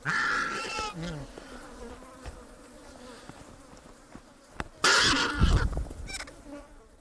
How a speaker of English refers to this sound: Chris Watson recording here vultures and flies feasting on a dead zebra with a microphone placed inside the animal's carcass